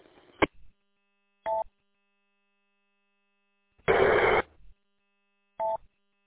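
A half-second burst of hissing radio static from someone keying a repeater during a radio net, with no intelligible audio coming through, set among shorter clicks and brief beeping tones, with silence between the bursts and no speech.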